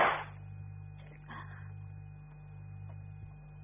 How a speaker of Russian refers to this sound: А что за стрельба была сейчас?